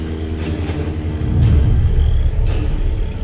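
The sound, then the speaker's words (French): A deep, continuous rumble of engines from airplanes crossing the sky overhead during the rainy season, searching for survivors of a missing plane; a low steady drone that swells louder about halfway through and holds there with no voices. “Derrière le concert des grenouilles, il lui semble entendre le grondement d'un moteur.”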